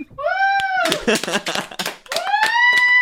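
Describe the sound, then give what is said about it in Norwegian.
A small live audience, greeted by the hosts and asked to clap, gives a brief burst of scattered clapping, framed by rising whoops and cheering voices before and after, loud. “Ja, ja, skal vi si hallo til vårt kjære publikum? Skal du klappe?”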